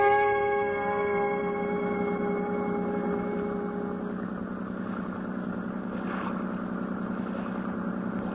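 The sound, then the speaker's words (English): A car engine runs steadily, starting with a tonal whine that fades into a constant low rumble and hum for the whole stretch, with no voices. “I'll drive you down to the docks.”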